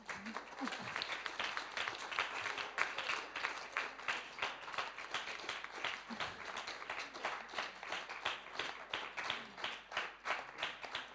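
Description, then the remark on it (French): An audience applauds at the close of an evening lecture ending a series of conferences, a dense, continuous patter of many hands clapping at an even loudness for about eleven seconds, with a faint voice briefly audible underneath. “Vous pouvez encore une fois applaudir.”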